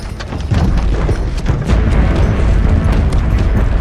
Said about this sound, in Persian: این یکی آماده است قربان. شلیکش کنید. آتش! توپ‌ها روز و شب شلیک می شدند و تمام شهر را در هرج و مرج فرو می بردند.